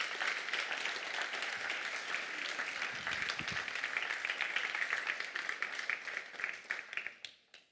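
A crowd applauds with steady, dense clapping that holds strong for several seconds, then thins into scattered claps and fades out near the end.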